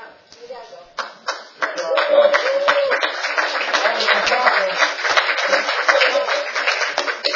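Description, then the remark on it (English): An audience breaks into applause, a few scattered claps at first swelling into steady, dense clapping that carries on loudly for several seconds. “I didn't really say that to get applause, but thanks anyway.”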